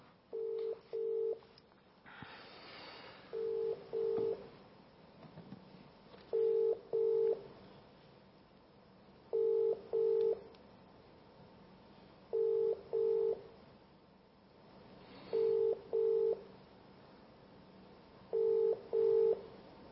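A telephone ringing tone on the line as calls are placed from two mobile phones: steady pairs of short beeps repeating about every three seconds, seven times over, clear with a faint background hiss.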